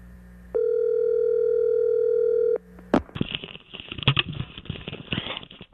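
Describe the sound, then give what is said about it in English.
A steady, unbroken telephone dial tone hums for about two seconds, then cuts off with a sharp click, followed by a few seconds of crackly, rustling line noise, as a call is placed to Tiger Woods. “I'm sorry, I thought he was on hold, but we need to call him to see what he thought of the British Open.”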